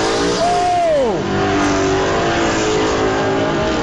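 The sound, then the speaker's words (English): A racing car roars past at high speed, winning the race at the finish, its engine pitch sweeping sharply downward as it passes, followed by a steady loud engine drone and crowd-like noise continuing throughout. “That's T.J. Bailey winning the race. Roger. I'm gonna say that's the fastest car we've seen here tonight.”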